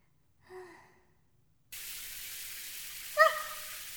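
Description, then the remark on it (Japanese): After a short breathy vocal sound, a shower bursts on and keeps up a steady hiss of spraying hot water, rinsing soap off someone's back, to the end, with one brief high squeak near the finish. “姉ちゃん今両手ともあわあわだからさ、シャワーちょっと悪いけど自分でかけてくれるかな。”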